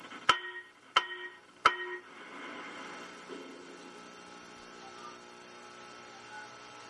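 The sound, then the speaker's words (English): Three loud, sharp clangs of a pot being banged as a public comment at a city council meeting, evenly spaced about two-thirds of a second apart, each leaving a bright metallic ring before fading into a low, steady background murmur. “And at this point, Mayor Cummings cut off his mic, not allowing him to exercise his public comment, which was in the form of a pot banging.”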